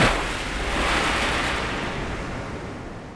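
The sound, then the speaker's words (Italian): A loud, rushing roar of stormy sea waves, a broad churning wash that swells and then slowly subsides, with no voices present. “È su una nave con Etienne. Il mare è in tempesta.”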